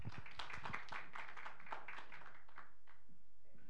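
A crowd applauds with a dense patter of many hands clapping for about two and a half seconds, then thins out and fades away, fairly soft overall.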